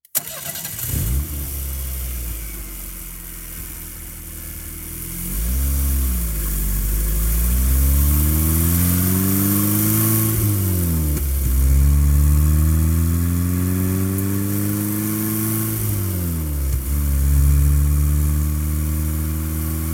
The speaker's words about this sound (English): I get into the car and drive away. I go down the highway, the Dixie Highway, heading south.